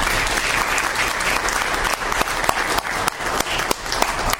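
An audience at a Norwich Academy event applauds steadily for several seconds, a dense, sustained wash of clapping with a few sharper individual claps standing out, fairly loud throughout with no talking.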